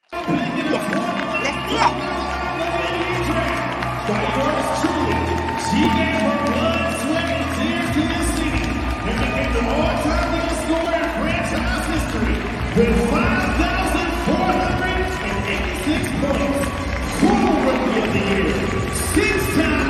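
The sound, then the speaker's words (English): A crowd applauds at an event after a video montage, steady clapping mixed with cheers, whoops and excited voices, loud throughout with no break, recorded on a phone. “everyone gave her like a little applause. So I got a little video clip from my phone.”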